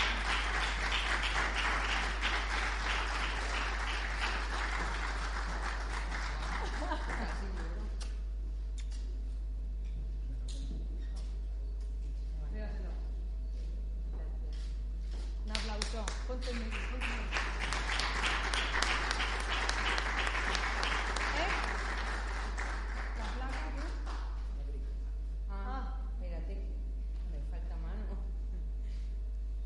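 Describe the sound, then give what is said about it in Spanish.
An audience at a prize presentation, as the first prize goes to the shop La Pequeña Moma, breaks into warm applause: a dense wash of clapping that fades after several seconds, then swells again in a second round before tapering off, with some voices murmuring in between. “Un fuerte aplauso.”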